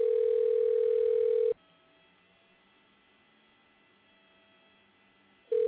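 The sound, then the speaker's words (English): A phone line's calling tone while calling the cannabis connoisseur: one steady, mid-pitched electronic tone lasts about a second and a half, then a long silent gap follows before the same tone starts again. No one speaks. “I'm calling the cannabis connoisseur right here.”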